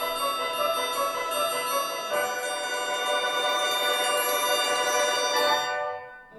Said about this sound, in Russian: Вдруг раздался звон серебряный.